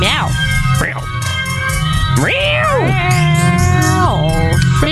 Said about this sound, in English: That's a cat being waxed.